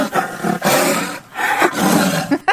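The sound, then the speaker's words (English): A voice imitates a tiger roar in two loud, rough, growling bursts with a short break between them, forceful, ending with a brief sharp vocal push. “Is that a tiger? Yeah, very good. Sounds like a dog.”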